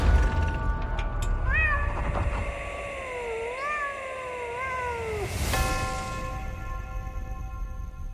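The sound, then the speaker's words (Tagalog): A black cat walking across a road gives a long, wavering, drawn-out meow lasting several seconds, clear, over a low background rumble with a steady ringing tone before and after. “Bumalik ang itim na pusa at lumalakad ulit pa-cross sa daan”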